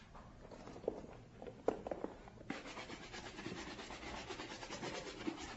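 Steady rhythmic scrubbing and rubbing of a brush over shoes as someone cleans them, with a few light knocks early on and the brushing growing denser and more continuous in the second half.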